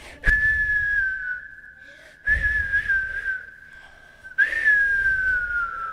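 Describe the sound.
A person whistles an invented birdsong: three long, steady high notes, each opening with a breathy burst and then holding a slightly wavering pitch that sinks gently before the next one.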